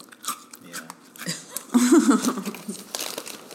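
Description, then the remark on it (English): Crunchy chewing of Teddy Graham crackers, irregular crisp crackles and bites over a few seconds, with a brief voiced murmur in the middle. “Can you hear me chewing my teddy grounds?”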